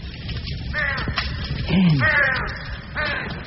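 bird, crows cawing

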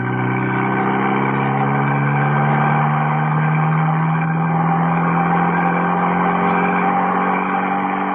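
vehicle, cars speeding

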